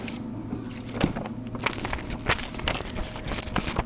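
A piece of paper crinkles and crumples as it is taken off, several seconds of steady dry crackling rustles with a few sharper snaps, and no voices.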